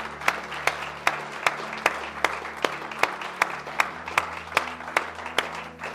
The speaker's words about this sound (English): Can you give God the craziest hand clap of praise?